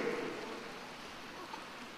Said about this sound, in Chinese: 还没鼓掌完呢